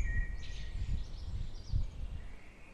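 The first birdsong of the early morning in Switzerland: soft, high bird twittering and thin whistled chirps drift over a low, steady rumble, with no voices present.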